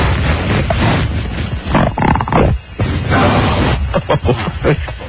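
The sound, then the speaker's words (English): A loud, drawn-out fart with a rough, buzzy rumble, sputtering through several brief breaks over about five seconds, heard on its own. “How do you say, seriously, breaking wind? How do you say fart in Chinese?”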